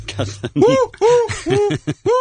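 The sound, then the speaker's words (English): A person imitates an owl, giving four loud hoots in a quick rising-and-falling rhythm, each one a short voiced call with brief gaps between. “I'm going to bring my pet owl.”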